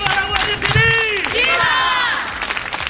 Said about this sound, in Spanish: Allí se han escuchado gritos contra el ministro, gritos de asesinos.